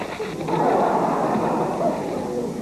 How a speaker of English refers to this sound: You crumpled my list. That is not an observation. That is a crumple.